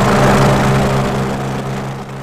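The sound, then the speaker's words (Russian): A small 250 kg Nerpa airboat, to be used by rescuers on the Belovo reservoir, runs its propeller engine steadily with a loud, buzzing drone and strong low harmonic hum, fading slightly toward the end, with no voices. “Нерпа отталкивается от воздуха и буквально скользит по воде, по снегу, по льду и даже по грунту.”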